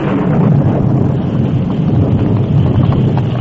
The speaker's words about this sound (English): A short time after the Lone Ranger and Tonto started to help in the search, a sudden thunderstorm broke.